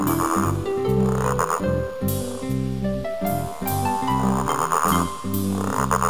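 A toad croaks in loud, rhythmic bursts, deep throaty pulses repeating steadily over a musical accompaniment, with no talking.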